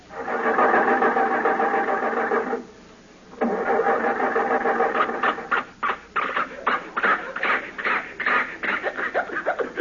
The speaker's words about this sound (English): The motor is flooded. It's got too much gas.